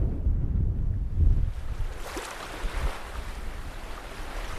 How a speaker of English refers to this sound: But you would actually think, with the waves coming in, that you're beside an ocean rather than a lake. Those waves are creeping closer and closer to a lot of dwellings and a lot of farmhouses on the shoreline here.